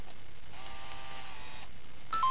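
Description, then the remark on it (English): A Game Boy printer powers up with a steady mechanical whir lasting about a second, then falls quiet before a short electronic chirp near the end. Moderately loud, with no voices. “Alright, we'll turn the printer on.”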